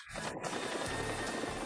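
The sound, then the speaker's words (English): A loud, steady roar of a helicopter in flight, with a low throbbing rotor beat under a broad rushing noise that starts abruptly and carries on without any voices. “I don't think you can use helicopters in chess.”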